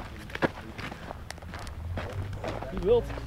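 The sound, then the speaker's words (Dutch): Footsteps crunch along at a steady walking pace over rough ground outdoors, walking over to a pile of rubble of old bricks, with a brief voiced murmur near the end and light background noise. “Nou, lopen we daar even heen.”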